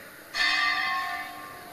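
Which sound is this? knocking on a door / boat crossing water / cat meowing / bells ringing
bells ringing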